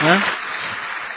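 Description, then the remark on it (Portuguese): A brief burst of audience applause for a presenter, asked for by the host, a steady wash of many hands clapping that follows a moment of speech at the start and carries on at moderate volume. “Pedir palmas aqui”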